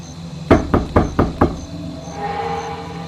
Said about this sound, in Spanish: No nos han encontrado. Si fueran esas personas, no estarían tocando la puerta. Entrarían mientras dormimos.